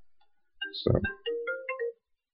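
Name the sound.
mobile phone ringing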